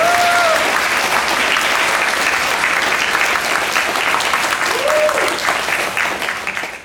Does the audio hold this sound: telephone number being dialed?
no